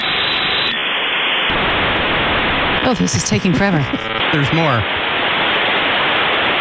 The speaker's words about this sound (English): This is how long it would take to get on the internet. So you dial in and then you'd hear these obnoxious sounds as your computer was connected to the AOL server.